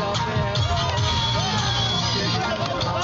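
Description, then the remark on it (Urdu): A large crowd of cricket fans in the stands of Colonel Sher Khan Stadium in Peshawar, Pakistan, roars and chatters continuously while no cricket is played on the pitch, a dense wash of cheering and overlapping voices with occasional yells rising out of the din, loud and sustained throughout. “تماشائیوں کا شور غل، ہلا گلا، یہ منظر ہے پشاور کے کرنل شیرخان سٹیڈیم کا، جہاں کرکٹ تو نہیں کھیلی جا رہی لیکن فینس کو سٹیڈیم میں بیٹھ کر میچ دیکھنے کا موقع پھر بھی مل رہا ہے.”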